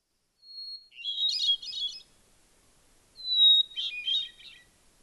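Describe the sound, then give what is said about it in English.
A hermit thrush sings two phrases, each opening with a long, pure whistled note that breaks into a quick, shimmering tumble of flute-like notes, with a short pause between them and no other sound. “Unlike the blue jay or painted bunting, the hermit thrush is an unassuming, nondescript-looking little bird. But its melancholy, plaintive flute-like song turns the heads of angels.”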